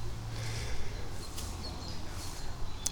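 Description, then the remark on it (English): Faint bird calls sound intermittently over a low outdoor rumble, with a few sharp squawks standing out now and then while an owl flies around. No one is speaking. “Okay, those birds are still squawking, which means that owl is still flying around.”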